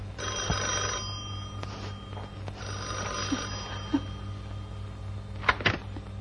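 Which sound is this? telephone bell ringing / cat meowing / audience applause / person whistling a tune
telephone bell ringing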